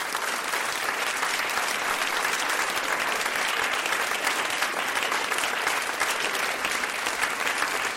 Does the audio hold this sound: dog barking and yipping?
no